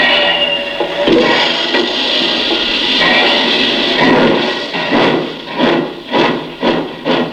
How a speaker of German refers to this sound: Die Maschine gab Dampf.